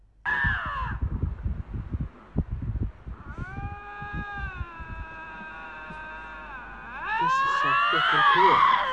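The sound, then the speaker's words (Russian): Two lynxes standing face to face on a road yowl at each other in long, wavering, drawn-out cries that overlap and grow louder and harsher near the end, after a few seconds of rustling and thumps. “Это две рыси друг на друга орут.”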